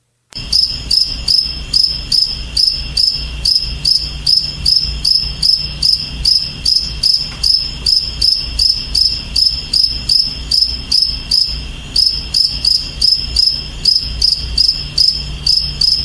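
Recorded cricket chirping repeats steadily in a 15-second clip: high, shrill pulses in a quick regular rhythm, a little over two per second, with one brief gap near the end; listeners count 39 chirps. There is no talking.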